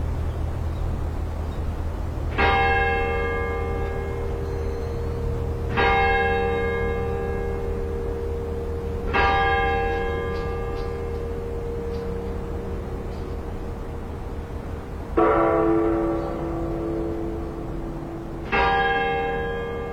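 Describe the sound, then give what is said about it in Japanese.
Bells ring out together at six in the evening at Oura Cathedral overlooking Nagasaki Port, Japan, with no one talking: the bright cathedral bell struck five times at uneven intervals, each stroke decaying slowly, over the deep, steady low hum of the hanging temple bell of Myōgyō-ji beside the church. “同時に聞こえてきたのは教会そばの妙行寺の釣り鐘です。”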